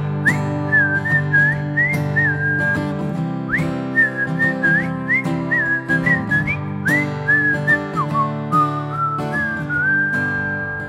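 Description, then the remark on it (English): A person whistles a bright, bouncy melody over a full band with steady drums, the whistled tune sliding between notes and carrying clearly above the music. “Whistle with me!”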